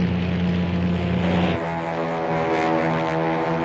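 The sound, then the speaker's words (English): A propeller plane engine drones steadily and loudly, its harmonic hum shifting pitch slightly partway through as it settles into a constant roar. “He grimaces as the doghouse jolts violently with the force of the engine.”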